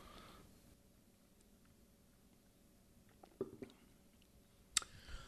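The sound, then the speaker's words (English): A quiet sip of a daiquiri rum cocktail from a glass: a brief soft slurp and a few wet mouth sounds, then a sharp little clink as the glass is set down, with no talking. “Well, I'm going to have a sip of your daiquiri now.”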